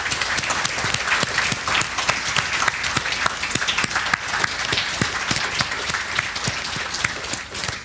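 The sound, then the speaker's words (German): An audience applauds the event's helpers steadily, many hands clapping in a dense, even wash of sharp claps that holds at a lively level for the whole stretch without speech. “Und ich würde sagen, die haben einen Applaus verdient.”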